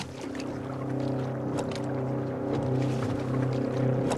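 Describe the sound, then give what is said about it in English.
A speedboat approaches, its motor droning steadily, a layered, humming engine tone with faint splashy hiss above it, holding fairly even and swelling slightly toward the end. No voices. “A speedboat approaches.”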